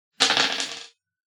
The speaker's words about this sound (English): So roll that dice.